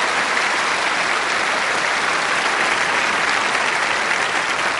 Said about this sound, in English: Good morning, and welcome to the 2000th broadcast for the Hour of Power. And if you want to applaud that, you may. That's an accomplishment.